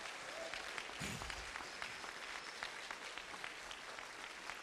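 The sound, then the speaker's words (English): A crowd at an evening community dinner in Memphis applauds the people who prepared the food, many hands clapping steadily for several seconds in a dense, even patter with no talk over it. “Let's give all the folks who prepared the food a round of applause.”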